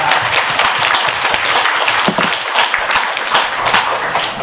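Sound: audience applause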